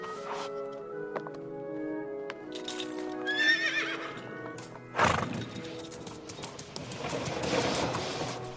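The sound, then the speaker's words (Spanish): A horse whinnies in shrill, wavering bursts, then its hooves clip-clop in a quick, steady rhythm, the clatter building toward the end with no one speaking. “¡Tranquilo, caballo!”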